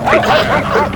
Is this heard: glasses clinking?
no